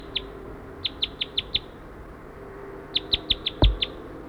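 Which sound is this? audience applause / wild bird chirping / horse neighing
wild bird chirping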